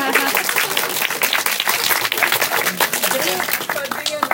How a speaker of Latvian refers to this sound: Ai, nu ko? Nu, aplausi tevē.